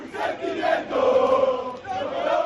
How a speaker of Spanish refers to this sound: Este guirigay que vamos a escuchar es de un equipo que ha salido a la puerta del hotel para abrazarse con sus aficionados.